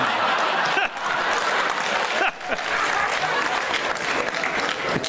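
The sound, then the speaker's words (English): A crowd claps steadily with dense, sustained applause, mixed with scattered cheers and a little laughter, filling the space loudly for several seconds with only brief dips. “You've got a marvelous cheer group here, haven't you?”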